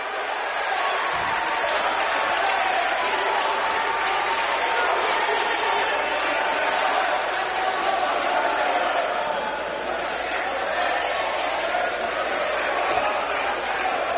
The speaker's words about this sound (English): And now, a technical foul is called on Bryce Martin, I believe. And he is fired up. And that has just fired up this crowd here even more.